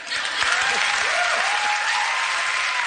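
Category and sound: crowd, studio audience applause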